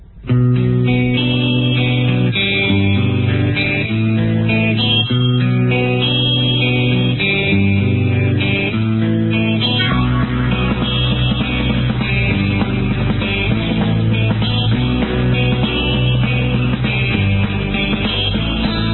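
A rock song played on air plays loudly and steadily, with distorted electric guitar chords repeating in a rhythmic pattern before the band thickens into a fuller, denser section partway through; no voices are heard.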